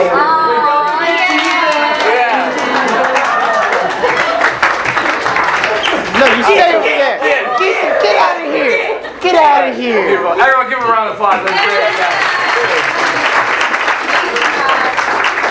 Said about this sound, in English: Everyone give him a round of applause.